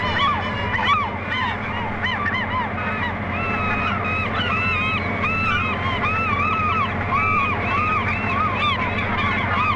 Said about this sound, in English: We're on a fish boat in the Strait of Georgia, heading out from Vancouver Harbor.